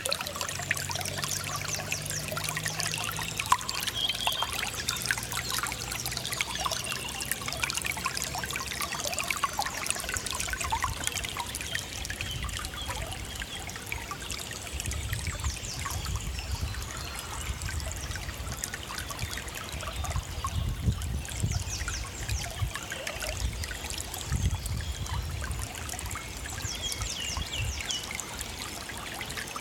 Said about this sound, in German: Der Heisterbach und das Frühlingszwitschern der Vögel, das Orchester des Frühlings.